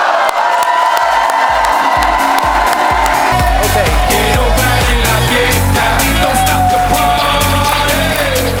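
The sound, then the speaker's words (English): A large crowd shouts a loud unison "hoo-ah, Doc" on a count of three to honor Dr. Wallach and breaks into sustained cheering and whooping, a dense roar of many voices that stays loud throughout. “So what I want you guys to do is, on three, give a big hoo-ah, Doc, and give him a rousing round of applause, okay?”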